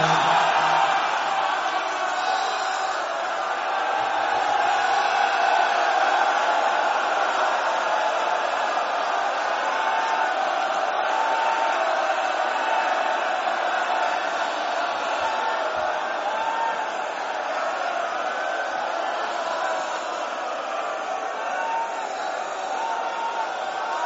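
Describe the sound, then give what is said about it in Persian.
A large crowd shouts together in response to a speaker, a sustained, steady roar of many voices, loud and continuous for the whole stretch with no single speaker standing out. “میخوام یه جمله بگم داد نشنوم خودم مریض میشم”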